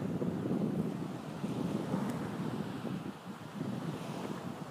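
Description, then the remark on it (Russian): Steady wind rushes past with waves washing and breaking in a continuous surge, a dense, fairly loud outdoor roar with no voices and no clear pauses. “Слушайтесь шум ветра, слушайтесь биение волн и уловите влияние руны Дагас в этих вещах.”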